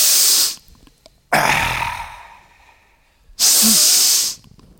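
Several loud, breathy exhalations during a meditation: one trailing off at the start, then a long, slowly fading breath out, and another shorter forceful exhale, with near-silence between them.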